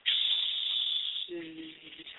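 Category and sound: vocal imitation, imitated loud snoring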